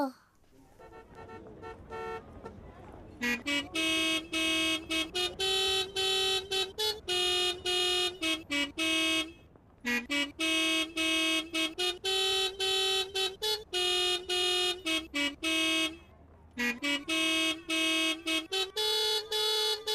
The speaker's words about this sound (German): Sie haben so viel Spaß an ihrem Hubkonzert, dass sie gleich schon das nächste Musikstück anstimmen mit ihren Hupen. Und dieses Musikstück, das ist wirklich ein bisschen verflucht.